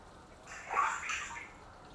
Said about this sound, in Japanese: しぶき跳ねたらごめんなさいまし。